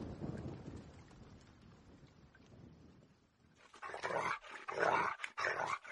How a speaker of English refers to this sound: She wasn't afraid of thunder and lightning.